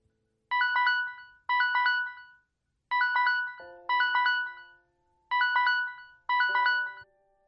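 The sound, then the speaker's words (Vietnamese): An electronic alarm clock set for 3:30 in the morning rings in three pairs of bright, melodic bursts separated by short pauses. Each chirp is clear, and no one speaks. “Tiếng đồng hồ báo thức điểm 3:30 sáng.”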